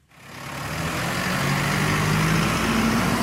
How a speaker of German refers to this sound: Ein Lastwagen verlässt den Hof von Petra Dräger-Röder.